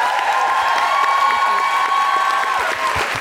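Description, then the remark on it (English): Steady, loud audience applause fills the whole stretch, a dense wash of many hands clapping with a few faint cheers or whoops mixed in, no talking over it. “Big round of applause”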